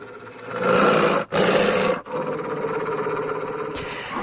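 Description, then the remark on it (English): A dog named Rover, featured on an album, growls loudly, a deep, rough, sustained snarl broken by two brief pauses into three long stretches, with no talking. “And here I am with my dog, Rover.”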